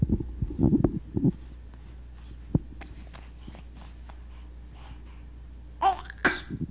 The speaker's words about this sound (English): Sneeze.